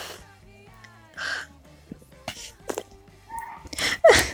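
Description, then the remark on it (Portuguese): A woman cries, with short wet sniffles and shaky, gasping breaths coming in uneven bursts over a quiet background, no words spoken. “É culpa por estar chorando.”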